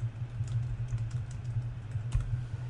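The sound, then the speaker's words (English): Steady keyboard typing of a message, a run of quick irregular key clicks over a low constant hum, with no one talking. “I'm going to send a message”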